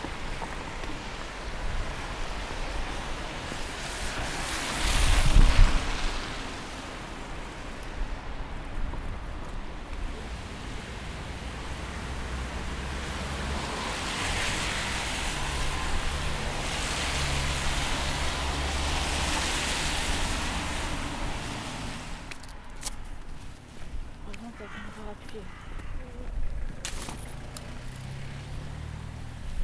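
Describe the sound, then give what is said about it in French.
Steady wind blows and roars across the microphone in rising and falling gusts, with a louder burst early on and a constant noisy rush throughout, no voices. “En plus, c'est du vent, merde!”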